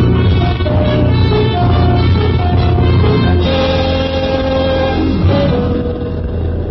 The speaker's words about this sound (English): You leave the unconscious Rigo in the car and the motor running. You close the garage doors and hurry back to the railroad station.